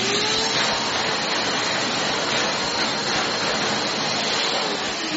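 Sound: vacuum cleaner running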